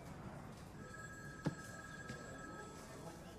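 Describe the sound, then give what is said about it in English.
A phone rings with a steady electronic tone held for a couple of seconds, fairly soft against a noisy background, with a single sharp knock partway through. “This your phone? Yeah, it's my phone.”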